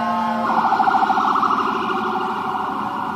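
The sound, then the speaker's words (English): Emergency vehicle sirens wail loudly and continuously, their warbling tones rising and falling, with the low rumble of traffic underneath and no one speaking. “I apologize. I just don't hear sirens while you're talking about it.”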